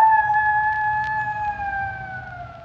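A long, steady animal howl with a pure, siren-like tone that slowly sinks in pitch, loud and sustained for a few seconds over a low background rumble, with no voices.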